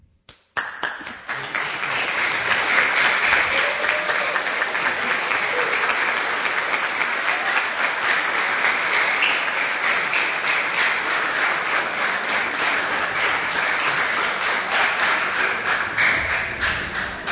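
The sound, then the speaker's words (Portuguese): Sustained audience applause at an award ceremony honoring a literacy teacher recognized two years in a row, a dense steady patter of many hands clapping at a fairly loud, even level for the whole stretch after a brief quiet start, with no voices. “por tanta dedicação nesse trabalho, porque dois anos consecutivos, sendo reconhecida na premiação do professor alfabetizador, representando a nossa regional, é um trabalho que merece ser aplaudido de pé.”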